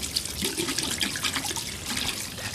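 Tap water runs steadily into a sink, a continuous hissing splash with small irregular spatters as hands move under the stream. No one speaks.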